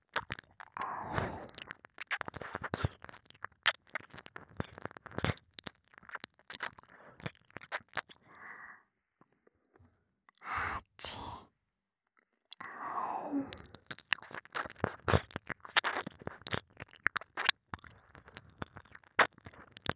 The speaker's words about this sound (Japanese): お兄さんの弱点の、 お耳、また舐めてあげます。耳舐め、大好きですもんね。